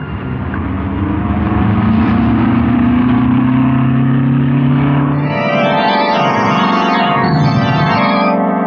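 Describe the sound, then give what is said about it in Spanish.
A loud car engine roars steadily at speed, then its pitch swoops up and down in repeated surges, like cars racing and revving in a chase: one car fleeing at full speed through narrow alleys and another car pursuing it. “Kasmar escapa en un auto. Y Calimán lo persigue en el suyo a toda velocidad.”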